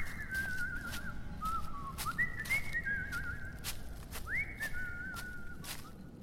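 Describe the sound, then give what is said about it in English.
A person whistles a cheerful, wandering melody with gliding notes while trudging into the woods, over steady low background rumble and intermittent sharp crunching clicks like footsteps. “has all the faith and goes trudging into the woods, whistling happily.”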